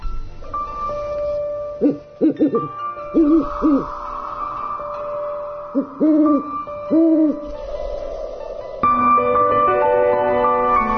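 An owl hoots in several short, clustered bursts, clear, layered over a steady musical background with sustained tones that swells louder near the end.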